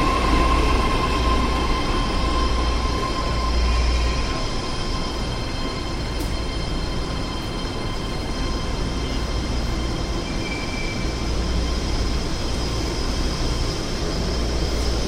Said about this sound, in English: It's a 9-car train. San Francisco, Dublin, Pleasanton.